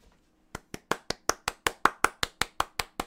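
crowd, golf clap

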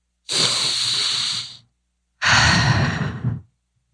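human body sound, deep breathing

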